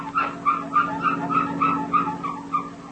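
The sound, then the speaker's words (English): A family car squeaking for want of a lubrication job: about a dozen short, high squeals repeating in a steady, quick rhythm over a low continuous hum, with no one talking. “Does your family car ever make noises like this?”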